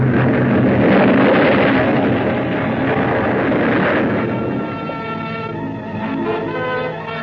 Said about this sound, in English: Exploded right on top of Whitney and the members of the crew. The force of the explosion hurled me into the blood-warm waters.